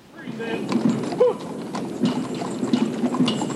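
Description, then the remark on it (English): Steady clip-clop of horse hooves on pavement from horses pulling a caisson with a flag at a memorial, a slow rhythmic procession with faint rolling and creaking underneath, with low murmuring in the background. “And there was the horse-drawn caisson with the flag, with the full military band.”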